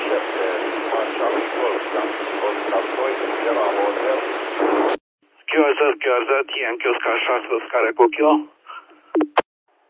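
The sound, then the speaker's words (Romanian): Amateur radio static and interference fill the first half as a steady, tinny hiss, then cut to a thin, band-limited voice transmission crackling over the radio. “Ceva interconectori, interferențe și așa mai departe.”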